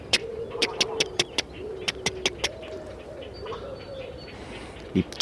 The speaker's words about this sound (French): Les petits hérons cendrés, alors c'est pas facile à entendre, c'est vite.